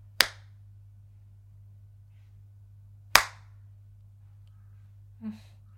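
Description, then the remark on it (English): Two sharp, loud slaps of a hand on skin land about three seconds apart, crisp over a steady low hum, followed by a brief faint sound near the end. “You will thank me for every slap I give you. Again.”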